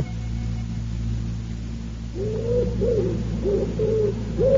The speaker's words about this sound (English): From the deepest wells of silence, the wood pigeon drew its bubble of sound.